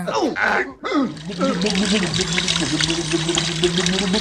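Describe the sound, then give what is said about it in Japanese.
A voice imitates crashing ocean waves with drawn-out, sloshing vocal swooshes, fairly loud, running continuously over a few seconds after a brief pause. “ここで波の音、はい、ザバーンザバーン。”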